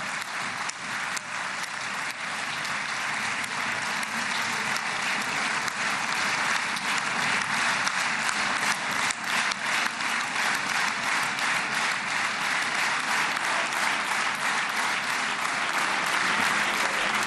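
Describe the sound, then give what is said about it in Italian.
Sustained, dense applause from members of the Knesset, the Israeli parliament, some rising to their feet during a speech by Trump, steady and loud for the whole stretch, with many hands clapping at once and no voices standing out. “Questi sono gli applausi dei parlamentari della Knesset, il Parlamento israeliano.”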